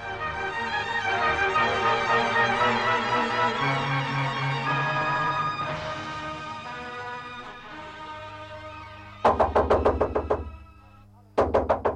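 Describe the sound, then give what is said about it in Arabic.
Music plays, then a quick burst of sharp knocks on a door, a pause, and another short run of loud rapid knocking. “نعم نعم، حالا حالا أيها الطارق.”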